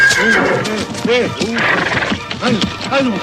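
A horse whinnies loudly, a series of quavering, rising-and-falling neighs repeating in quick succession over about three seconds, with faint hoof clops mixed in.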